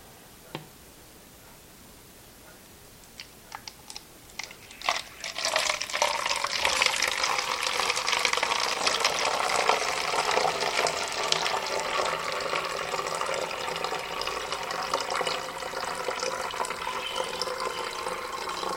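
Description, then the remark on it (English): A few small clinks and taps, then a steady stream of film stop bath pours into a labeled bottle for over ten seconds, with the pitch rising slightly as it fills. Fairly loud, with no talking. “I'm going to pour that in the bottle I labeled stop bath.”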